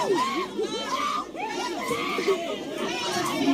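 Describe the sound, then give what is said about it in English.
A crowd of high school students screaming and shouting over one another during a school brawl, loud and chaotic, with overlapping high-pitched yells and excited chatter filling the whole stretch without a break. “Because that was what most of the screaming was about.”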